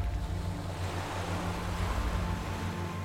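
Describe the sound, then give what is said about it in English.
Small waves break steadily on the shore of a beach in a continuous, soft rush of water, with a low droning rumble underneath and no voices. “You hear the small waves breaking on the shore.”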